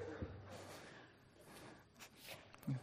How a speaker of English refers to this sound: I was always embarrassed by my dad, who would blow his nose in front of other people, and here I am. In front of y'all.